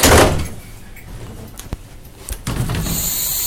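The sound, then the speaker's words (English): A train door at Ipswich train station is slammed shut by hand just after five in the morning: a loud bang right at the start, followed by a few lighter knocks and clicks before a steady background rumble settles in. “And I'm now going to shut it with a good old fashioned slam.”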